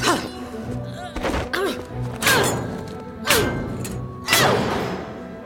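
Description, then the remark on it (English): A heavy metal fire extinguisher is wedged into a door latch to block the door, with several loud, jarring thuds and clunks about a second apart, each trailing off with a ringing scrape. “That's jammed the latch.”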